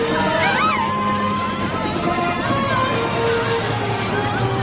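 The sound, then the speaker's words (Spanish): A helicopter landing on a stage in a park: a loud, steady roar of rotor and engine noise with a low rumbling hum, holding constant throughout, with faint high cries or shouts of frightened fans running mixed in. “El helicóptero aterriza.”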